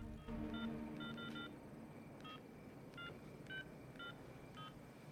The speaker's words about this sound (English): dials a number from the phone book.